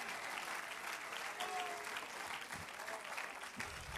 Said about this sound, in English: Anybody believe the word of God? Let's clap our hands unto him and lift a voice of praise. Magnify him.